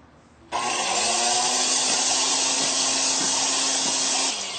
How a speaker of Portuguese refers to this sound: Que nós vamos acrescentar aqui e continuar batendo para dar o ponto de marshmallow. Ok? Põe umas 3 colheres e continuaremos batendo rapidamente, só para fazer a mistura.